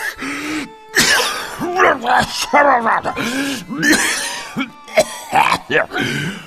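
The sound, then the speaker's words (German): A loud coughing fit: a person hacks out a rapid series of harsh, raspy coughs mixed with throat clearing and strained groaning, with barely a pause between bursts. “Hier, nimm ein wenig Pflaumensamen, getränkt in Wein. Und du kommst wieder zu Atem.”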